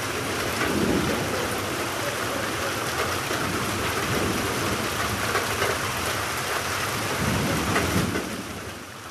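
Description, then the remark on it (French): Steady, heavy evening rain pours continuously, a dense hiss with low rumbles of thunder rolling beneath it, easing slightly at the very end. No one speaks. “Le soir, le temps changera pour de la pluie.”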